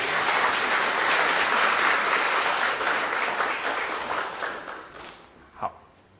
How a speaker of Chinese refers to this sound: 好，那我们掌声谢谢这位师兄。